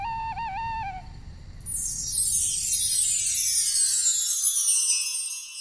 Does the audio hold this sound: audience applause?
no